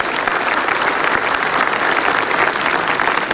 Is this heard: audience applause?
yes